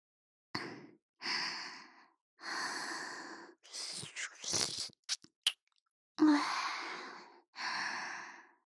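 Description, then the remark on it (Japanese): Soft breaths blown into the listener's ear one after another in slow, airy puffs, with a few small mouth clicks and rustles in between; no words are spoken. “私の吐息、耳にかかるの気持ちいいんでしょう。”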